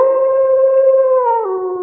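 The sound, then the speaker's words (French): A wolf lets out one long, loud howl, holding a steady, clear pitch before it dips slightly toward the end, with no voices. “nous commencerons par un animal emblématique, porteur d'une charge symbolique particulièrement dense, le loup.”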